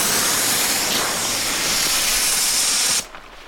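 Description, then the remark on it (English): A loud, steady pressurized hiss of a bear pepper spray canister, its top popped off and sprayed at a range with paper brown-bear targets, blasting for about three seconds, then cutting off abruptly, leaving quiet background. No voices. “we pop the top off with our hand supporting the base, and then out for spray”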